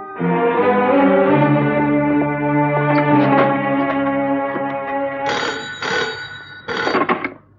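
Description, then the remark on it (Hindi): A telephone rings with a sustained, echoing electronic tone as an outgoing call is placed, then short brighter ring bursts follow near the end. It is fairly loud, with no voices. “उस दिन तुमने एक फोन किया था, आज मैं एक फोन करूंगा।”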